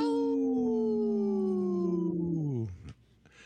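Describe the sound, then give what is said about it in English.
A person with a cold imitates a wolf howl: one long, sustained wavering tone that slowly slides downward and then breaks off abruptly, followed by a brief quiet pause. “My howl's a little...”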